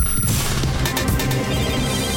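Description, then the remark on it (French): A telephone rings loudly and steadily with a buzzy, pulsing electronic tone that carries on without pause and with no voices, before reaching the Africa Radio answering machine. “Mais d'abord, direction, sans plus tarder, le répondeur d'Africa Radio pour écouter vos messages.”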